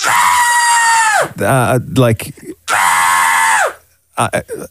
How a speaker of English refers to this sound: Well, clearly you're screaming, but why would... Okay, that's a scream.